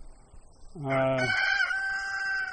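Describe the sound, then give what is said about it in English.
A single loud rooster crow near a chicken coop rises sharply and then holds a long, strained, drawn-out note, with faint chicken clucking and farmyard background noise underneath. “What's the most interesting thing that you've learned about chickens since you started doing it?”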